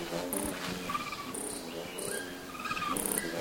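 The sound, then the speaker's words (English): A displaying male bird gives repeated high, buzzy wing-hum bursts mixed with quick chip notes and brighter chirps, all over a steady insect-like background drone, with no talking. “Listen for three distinct sounds in this clip of a displaying male: wing hum, fast chip notes, and loud chirps.”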